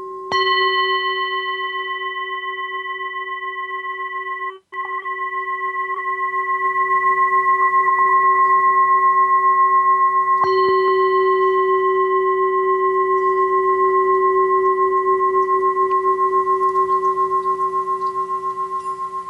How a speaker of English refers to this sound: I got a little overzealous on that second gong there. Sorry for that one if it took your ears out.